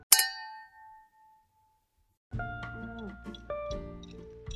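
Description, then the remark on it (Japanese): A single bright glass clink from a toast made remotely rings out sharply and fades over about a second, followed after a short pause by a busier stretch of tones and murmured voices. “じゃあちょっと遠隔ですけど乾杯から始めたいと思います、はい、乾杯。”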